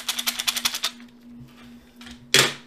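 A quick run of about nine sharp clicks rattles off, then a few soft shuffles and one loud snap near the end: dice, including 20-sided dice, clicking in a magnetic case that shuts.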